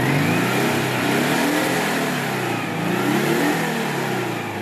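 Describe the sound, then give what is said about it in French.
A Citroën 2CV car engine is revved, accelerating a little, with a buzzy, mid-pitched drone, its tone rising and falling in waves through the loud, continuous sound, with no voices over it. “Ça, c'est une parole de deux chevaux.”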